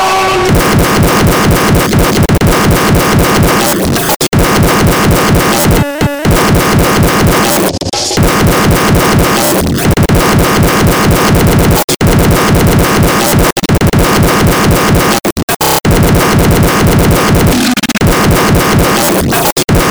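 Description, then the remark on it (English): A loud, dense dance track pounds away with a banging donk bass bouncing on a fast, steady beat, continuous, with brief dropouts and no voices. “You know what you want to do with that, right? You want to put a banging donk.”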